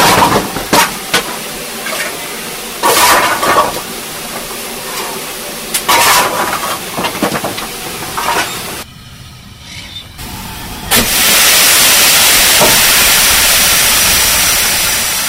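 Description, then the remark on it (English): Steam locomotive 80105, a relatively modern engine compared to older engines, hisses loudly, a broad steady roar of escaping steam that surges in after a stretch of clanking, rumbling engine noise and a short quieter pause. “It's quite a modern engine, really. in comparison to the older engines.”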